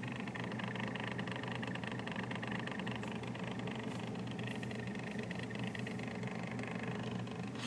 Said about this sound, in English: That's the sound my air conditioner makes. Sounds like it's purring.